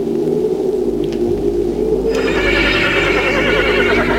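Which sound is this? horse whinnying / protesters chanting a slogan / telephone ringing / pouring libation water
horse whinnying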